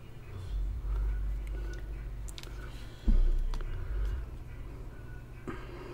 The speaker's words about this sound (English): That's the mud truck transportation system. Yeah, okay, that's one. It's like a moving barge with wheels.